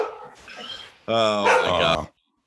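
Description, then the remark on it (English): A dog barks loudly in one sustained, strained outburst lasting about a second. It follows a stretch of softer, muffled sound and then cuts off into near silence. “my dog is going absolutely crazy.”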